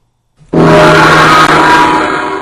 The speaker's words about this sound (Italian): Ok, il gong è stato veramente troppo potente